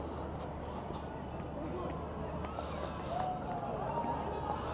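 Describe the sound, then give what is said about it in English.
A busy fairground scene with a steady wash of crowd chatter and movement, and faint wavering musical tones drifting in near the end from an old-fashioned carousel ride with horses going around. “We've got an old fashioned ride with horses going around, carousel.”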